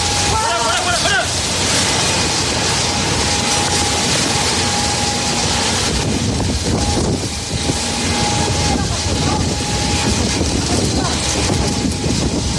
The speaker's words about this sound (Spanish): Y esto es el viento mezclado con las llamas.